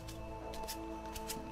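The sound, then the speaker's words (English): A pile of just-shuffled critical hit cards being fanned through, a handful of quick papery riffling bursts coming in uneven clusters over a steady low background hum, with no one talking. “this pile of critical hit cards and having you pick one, I'm going to start, like, fanning through them, and you tell me stop.”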